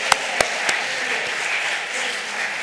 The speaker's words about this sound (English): Clap your hands louder.